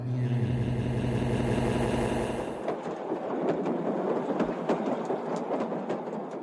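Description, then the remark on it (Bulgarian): A steady, humming engine drone gives way to a train rattling along the tracks, with dense clattering and sharp metallic clicks. It is fairly loud, with no voices. “Когато снощи се качи на влака, ти беше почти в несвяз.”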